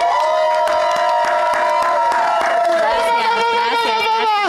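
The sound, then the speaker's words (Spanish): An audience cheers loudly to welcome a guest singer on the show, with high, sustained whoops and shouts and scattered claps crackling underneath, for about four and a half seconds without letting up. “¡El aplauso que se oiga!”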